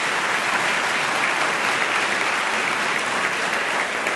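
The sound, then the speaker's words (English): A debate audience claps steadily and loudly for several seconds for everyone who asked questions, a dense, even wash of applause with no voices standing out above it. “So everybody who got up and asked questions, thanks very much for you, and a round of applause for those.”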